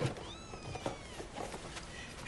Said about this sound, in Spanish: ¿Y eso? El gato.